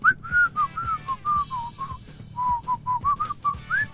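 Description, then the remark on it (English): Someone whistles the bright, bouncy Irish Spring soap commercial jingle, a quick run of short melodic notes with a few upward swoops, heard alone with a low background hum. “So I can only do a bad Irish accent if I hum or play the Irish Spring.”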